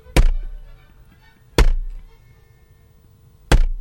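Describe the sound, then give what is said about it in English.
Three heavy, dull thuds at uneven intervals, a pak choi slammed against a desk, each a sharp low impact with a brief decay, fairly loud with quiet room noise between. “In the spirit of light entertainment, here is a pak choi being banged on the desk.”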